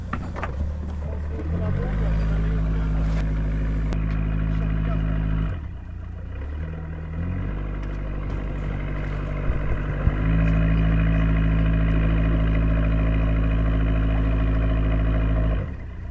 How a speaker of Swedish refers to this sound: Och nu tuffar den vackra båten majestätiskt iväg till sin bryggplats.